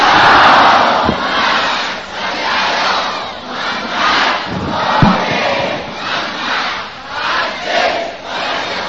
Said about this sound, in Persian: حالا هر کی حالشو داره و تا حالا خسته نشده یه صلوات خط کنه.